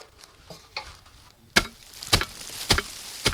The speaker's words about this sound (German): Gerade steigt ein Reetdachdecker auf einer Leiter nach oben und entfernt mit einem Klopfbrett das Moos. So hält das Dach länger.